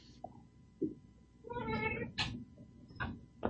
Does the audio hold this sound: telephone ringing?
no